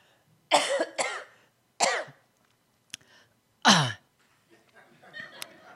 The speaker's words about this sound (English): Can I just cough really hard one time?